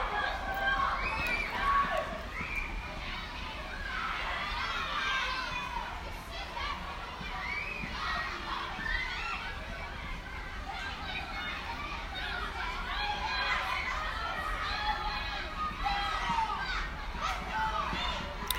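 A steady wash of children's high-pitched shouts and squeals as they play, overlapping voices rising and falling continuously for the whole stretch, with no single speaker standing out.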